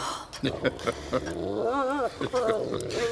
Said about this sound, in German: Verdammter Köter! Lass ihn in Ruhe. Ruhig, Bumble, ruhig.